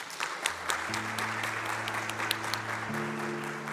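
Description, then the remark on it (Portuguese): An audience applauds Sintra, a translators' association, at a prize presentation, steadily for the whole stretch, a dense, even wash of many hands clapping with a few sharper claps standing out, over a low sustained droning tone. “Uma salva de palmas para Sintra.”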